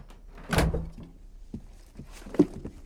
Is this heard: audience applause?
no